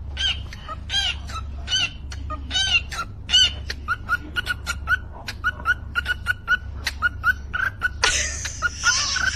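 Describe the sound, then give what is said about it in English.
A pet cockatiel beatboxing, rapid rhythmic clicks and chirpy whistles in a steady repeating pattern, fairly loud, ending in a harsh, noisy screech over a low background hum. “Here's someone's pet cockatiel who actually has some pretty mad beatboxing skills.”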